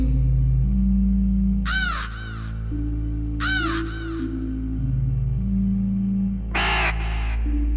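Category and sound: bird, raven cawing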